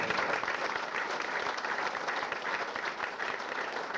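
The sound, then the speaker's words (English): Sustained audience applause at a church service, a dense steady patter of many hands clapping at an even loudness throughout, with no voices standing out. “You're doing well with your applause, so don't dry it up.”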